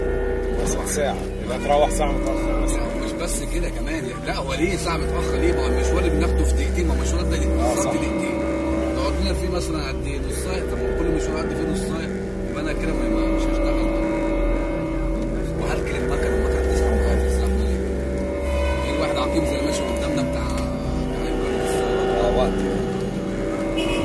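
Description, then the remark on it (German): A taxi's engine drones steadily from inside the vehicle as it moves through stop-and-go city traffic, the low rumble rising and easing with the pace, while faint voices murmur in the background. “Die Taxifahrt, oder besser das Stop and Go, geht weiter.”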